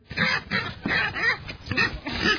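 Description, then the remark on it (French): Several pigs belonging to Madame Yalala Ndondoli of Kaira village grunting and squealing in a steady series of harsh, rough bursts, about five or six in quick succession, fairly loud with no talking. “Ces porcs font aujourd'hui la fierté de Madame Yalala Ndondoli du village Kaira.”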